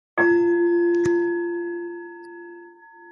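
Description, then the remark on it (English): A meditation bell is struck once to signal the beginning of a meditation, ringing out with a clear, bright tone that hums and slowly fades over several seconds in otherwise quiet surroundings, with a faint tap partway through. “So I'll just ring the bell to signal the beginning of the meditation.”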